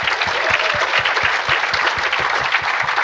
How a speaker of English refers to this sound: Round of applause for Andrew.